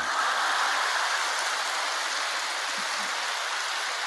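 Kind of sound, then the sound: crowd, audience applause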